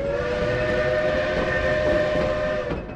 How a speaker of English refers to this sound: the old Baldwin steam engine pulling a load of sightseers across the mountain passes and canyons of northern New Mexico and southern Colorado.